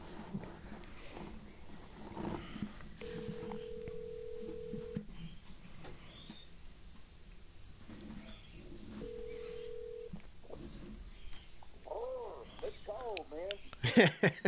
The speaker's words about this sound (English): Okay, just call him. All right, let's call him. Yep. This is going to be great. Oh, hey, it's ringing in my ear.